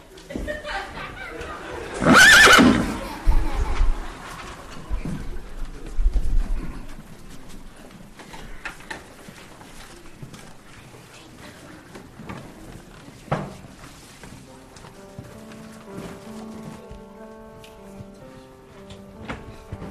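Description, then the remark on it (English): A loud, shrill horse neigh bursts out near the start, followed by scattered hoof clops and faint rustling, with a quiet melodic tone creeping in toward the end. The horses are two giant white steeds named Galahad and Lance, belonging to Stormy and Starry. “I'm sorry, little princess, but the 2 giant white horses belong to Stormy and Starry.”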